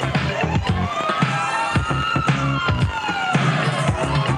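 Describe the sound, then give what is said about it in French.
A fire engine siren wails, rising and falling steadily, signalling firefighters, layered over a loud, driving musical beat with regular thumping percussion throughout. “Et les … qui nous annonçait les pompiers.”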